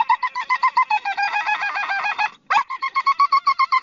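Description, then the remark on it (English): An excited Springer Spaniel named Rocco, stuck inside a car while a squirrel is outside, squeals in rapid, high-pitched, honking yelps, rising into a sustained whine before a brief pause, then resuming its quick, rhythmic squeals. No one speaks. “Sounding more like a seal than a dog, Rocco is one excited Springer Spaniel, and with good reason.”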